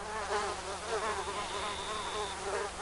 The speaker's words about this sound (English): mosquitoes, the bane of summertime, even more so these days with the threat of West Nile virus lurking in their insistent buzz.